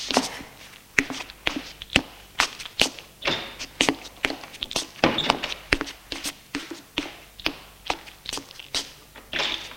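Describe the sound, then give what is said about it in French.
A woman's footsteps walk steadily across a hard floor to the front door to open it after the doorbell rings, each step a crisp tap at a brisk, slightly uneven pace, with no voices. “Elle se lève et va ouvrir.”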